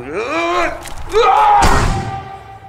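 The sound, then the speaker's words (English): A single dull thud as someone tries to walk through a door and hits it lands midway through, surrounded by wordless vocal sounds such as a strained groan. “You can't go through the doors.”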